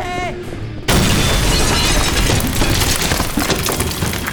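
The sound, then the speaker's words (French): A bomb explosion in the toilets bursts in abruptly after a brief tonal, wavering sound, then a loud, sustained roaring rumble full of crackling, shattering debris continues to the end. “Il y a une bombe dans les toilettes! Ça va péter!”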